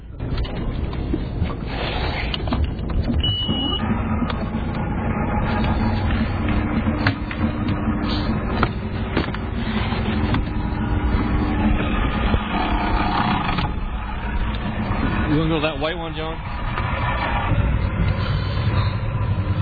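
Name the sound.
boat engine running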